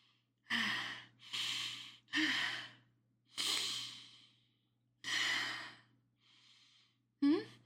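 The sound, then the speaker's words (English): A run of about six breathy sniffs, each a short burst of airy noise separated by brief pauses, with the last one sharp and quick. No talking. “Sorry, I just one quick sniff and I.”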